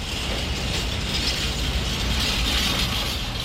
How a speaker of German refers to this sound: Lautes Klirren und Poltern. Die Eisenbahngesellschaft Potsdam schiebt gerade einen langen Güterzug auf den Containerumschlagplatz von Berlins einzigem trimodalen Innenstadt-Güterverkehrszentrum Westhafen.